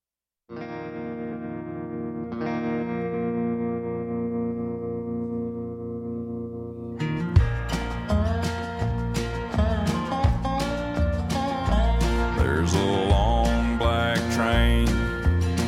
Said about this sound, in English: we're listening to some country music, Christian country music. So we're going to play a song